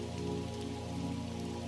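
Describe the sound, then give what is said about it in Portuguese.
Steady rain falls outside, a continuous soft patter of drops on surfaces with a low, constant hum beneath, moderately quiet and even throughout with no voices. “Está chovendo lá fora.”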